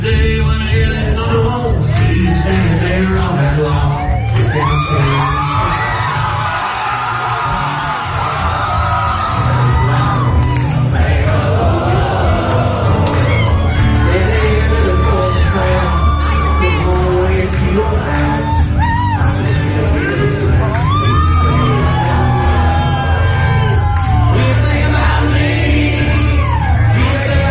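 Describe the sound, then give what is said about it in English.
A large concert crowd roars continuously, with loud whoops, shouts and yells rising over a dense wall of cheering that stays steady for the whole stretch, as a singer walks out from behind the curtain to surprise the crowd. “And … decided to surprise the crowd and walked out from behind the curtain to join them for a little bit.”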